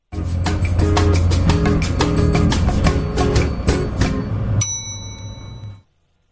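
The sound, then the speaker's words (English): A brief, punchy elevator-pitch music beat with steady drum hits and a low bassline runs for a few seconds, then stops on a single bright bell ding that rings out and fades, signalling the start of a company pitch. “I'm going to play my little elevator pitch beat here, and after that, at the bell, you are going to start pitching the company.”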